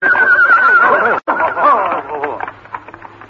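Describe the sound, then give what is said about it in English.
A lame horse, favouring its left leg, whinnies loudly, a high wavering neigh that breaks off briefly, then continues into shaky, snorting nickers that trail away more quietly. “my horse just went lame.”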